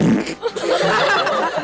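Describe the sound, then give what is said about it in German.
A loud fart, a drawn-out rasping blast lasting over a second with a brief break near the start, heard on its own without anyone talking. “Ein richtiger Rülpser und Pups klingt nämlich so.”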